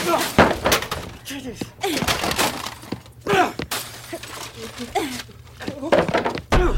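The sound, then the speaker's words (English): Electrical household items, including a TV and lamps, are thrown out into a hall, crashing and smashing with glass shattering and heavy thuds in quick, irregular bursts, while people talk and shout over the clatter. “Anything electrical, throw it out. Telly, the lamps as well.”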